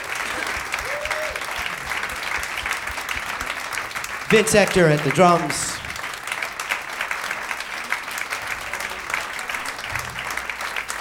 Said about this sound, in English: Thank you very much. Big round of applause, Mr. Scott Hamilton.